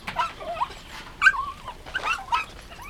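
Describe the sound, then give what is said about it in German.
Several puppies at a campsite whimpering and yapping as they are being fed meat, a run of high, thin whines and short yips overlapping in quick, uneven bursts with no talking. “Der war inzwischen zum Campingplatz zurückgefahren und versorgte die Welpen.”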